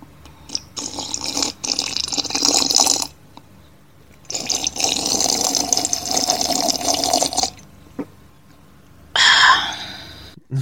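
Someone drinks water: two long stretches of gulping and sipping separated by short pauses, ending with a sharp breathy exhale. No one speaks.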